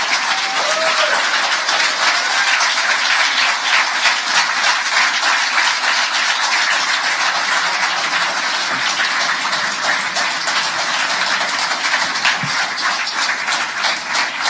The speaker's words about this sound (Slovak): Vítajte. Jednoznačne najväčší potlesk